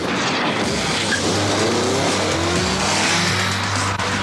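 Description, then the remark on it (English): A Roadster electric sports car, driven by Top Gear's Jeremy Clarkson, accelerates hard at full throttle, a steady rising motor whine climbing in pitch over loud, continuous road and tire roar, sustained throughout with no one speaking. “Top Gear's Jeremy Clarkson took one out for a spin and marvels as he floors it.”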